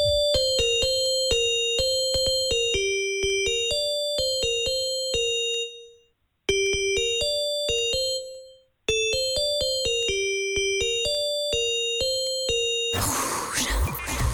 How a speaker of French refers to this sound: On va te faire écouter un hit des années 2000, version sonnerie Nokia.